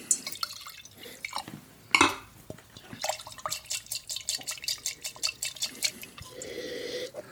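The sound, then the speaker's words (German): Wine is poured into a wine glass, a rapid series of glugging splashes, after a few clinks and knocks of glassware as glasses are switched; the trickle rises in pitch as the glass fills. “Meine ist zu kalt. Nochmal ein Glas wechseln.”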